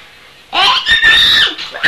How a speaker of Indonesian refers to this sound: Ini galau suara babi. Itu bayi. Lucu suaranya. Gimana babinya? Lucu suara. Lucu.